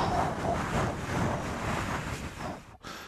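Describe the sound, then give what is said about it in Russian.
Loud, continuous rustling right up against a microphone, imitating the Martian wind, with a brief gap near the end before the rustling resumes. No one speaks. “Это называется, когда шуршишь перед микрофоном.”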